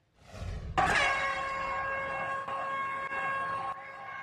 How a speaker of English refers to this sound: San Francisco police sounded air horns yesterday as they shut down the rally.